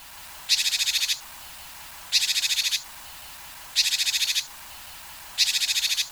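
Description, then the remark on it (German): Japanese tit calls come in four evenly spaced bursts. Each is a rapid, high-pitched chattering string of repeated notes lasting under a second, with no voices around them. “Ist das so ein hysterisches, lauteres Piepsen und das andere eher so ein nettes, heranrufendes Piepsen?”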